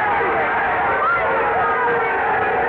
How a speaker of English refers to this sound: Oh, the crowd's giving him quite an ovation. Listen.